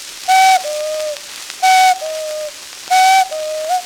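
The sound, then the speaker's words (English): A voice imitates a cuckoo clock, calling three evenly spaced two-note "cuck-oo" calls. Each is a clear, whistle-like high note dropping to a lower, longer one, with no other talking. “And to make his story true, he cuckooed 7 times, for he was quite a cuckoo too.”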